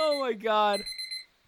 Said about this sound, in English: We need to make our own app so I don't have to hear that goddamn beeper. I'm getting PTSD, honestly, from freshman year. I know, college. Right? That was the alarm I used to get up at, like, for my 8 a.m. classes. And yeah, it's so fucking generic.